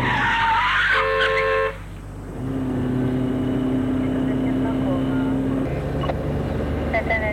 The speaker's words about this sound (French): Et la voiture file dans Paris.